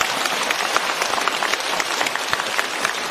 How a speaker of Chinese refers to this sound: 让我们用掌声感谢卢台长为我们看图腾。